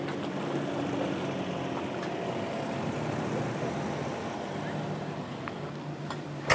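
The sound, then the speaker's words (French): A large tractor engine rumbles steadily, a deep continuous drone with no breaks, while the tractor slowly parallel parks. “Ça a presque l'air facile de faire un créneau avec un si gros tracteur.”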